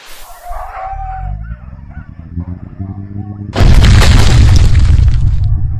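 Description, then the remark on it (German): Sled dogs yelp and howl briefly over a rising engine-like rumble as the sled's turbo button is pressed, which suddenly bursts into a loud, sustained roaring rush like a powerful boost kicking in. “Was neu ist, wenn du diesen Turbo-Knopf drückst, wird jedem Hund eine Dosis kryogenetisches EPO injiziert.”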